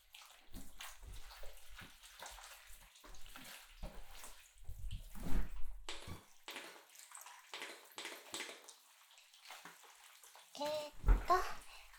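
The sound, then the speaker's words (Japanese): Wet squishing and sloshing of hair being lathered with shampoo, coming in irregular scrubbing bursts, with a sharper splashy rustle near the end. “シャンプーしていきましょう。”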